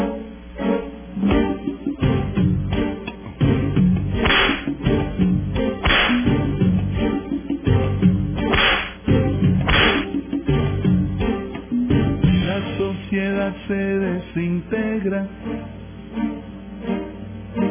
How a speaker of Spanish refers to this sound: Vamos a darle entonces los latigazos y la canción de la hipocresía.